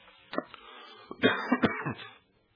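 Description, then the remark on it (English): A person coming down with a respiratory illness coughs repeatedly, a burst of sharp, harsh coughs in an uneven series lasting a couple of seconds before falling quiet, with no talking. “Sorry for the coughing, folks.”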